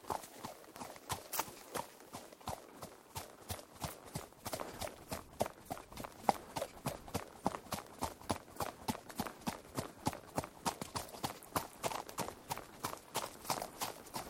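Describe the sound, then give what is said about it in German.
Horse hooves clip-clop as a horse is ridden at a brisk, steady trot, the sharp regular beats clear for the whole stretch with no talking. “Ja, ich möchte ein bisschen schneller reiten. Super, das heißt Trab.”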